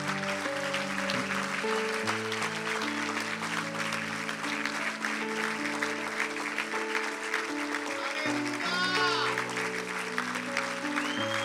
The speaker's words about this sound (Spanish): Vamos, dele un aplauso al Padre.